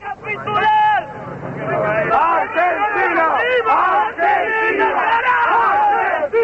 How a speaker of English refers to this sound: key areas of Buenos Aires, thousands of people have swept out onto the streets, chanting their defiance at the ceasefire and also shouting their anger at the way the Argentine government has handled the whole affair.